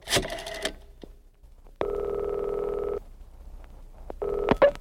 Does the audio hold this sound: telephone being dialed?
yes